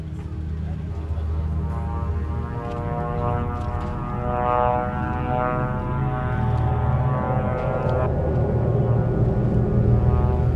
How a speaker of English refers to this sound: Another electronic tool used by the occupation to track Palestinians and kill them is the drones that hover in the sky day and night. They are used to watch what happens on the ground or to directly target civilians and kill them with rockets.